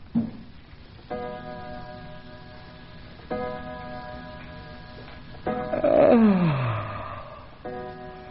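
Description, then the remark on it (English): An old clock strikes ten o'clock in slow, evenly spaced chimes, each stroke ringing out and sustaining before the next. A brief sliding tone sweeps downward between later strokes. “Well, there goes the old clock, striking off 10.”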